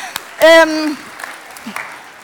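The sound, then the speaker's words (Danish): A small audience claps steadily, applauding themselves, while a single voice lets out a loud, rising-then-falling whoop near the start. “Klap lige af jer selv.”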